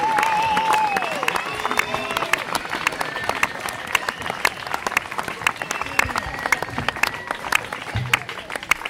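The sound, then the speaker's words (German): A large theater audience, recorded live at a Friday or Saturday performance of the theater Luna Drago on Schützenweg in Bern, breaks into sustained, dense applause, with scattered whistles and cheering voices rising above the clapping near the start. “Dann gibt es oben einen tosenden Applaus.”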